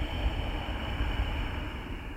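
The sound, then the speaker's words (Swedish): A long, steady ujjayi exhale through a constricted throat, a soft, even rushing hiss with a low, ocean-like rumble lasting about two seconds, alone without talk. “Ujjayi andetag med det där lätta motståndet i halsen.”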